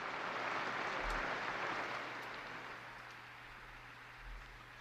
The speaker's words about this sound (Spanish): Un aplauso a la nueva Beata, con verdad y valor, seguir a Cristo.